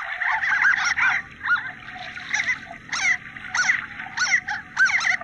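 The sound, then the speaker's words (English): Harlequin ducks give a busy run of squeaky, high-pitched calls in quick irregular bursts over a low steady rumble like moving water. “Yeah, the ducks are not known for their vocal abilities, but harlequin ducks are... one of these coastal species that actually, they nest inland and often on these sort of faster moving rivers.”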